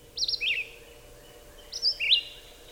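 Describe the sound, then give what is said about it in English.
Two short, high-pitched warbled bird phrases separated by a pause, the clear robin-like song of a red-eyed vireo (colloquially the preacher bird), heard during warmer months, with no voices present. “During our warmer months, listen for the song of the red-eyed vireo as heard here.”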